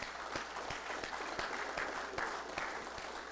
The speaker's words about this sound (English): In the name of Jesus, I want you to clap your hands like you just saw your favorite team.